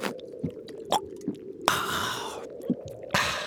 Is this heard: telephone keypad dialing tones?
no